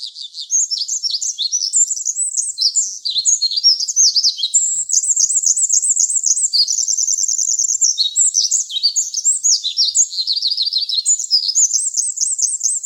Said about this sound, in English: to another bird, another Pacific wren, we can imagine that that bird would hear that song something like this.